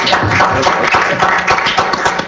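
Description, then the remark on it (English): Steady applause from a group at a meeting, praising the county commission's support for affordable housing funding, a dense crackle of many hands clapping at once that holds at an even, fairly loud level for a couple of seconds with no voices over it. “It's not often we get to applaud the county commission.”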